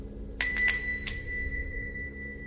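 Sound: small bell ringing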